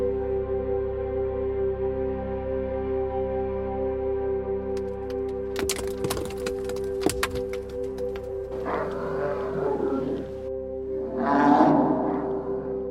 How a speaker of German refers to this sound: Habt ihr das auch gerade gehört? Ich glaube, hier ist doch ein übel gelaunter Bär unterwegs.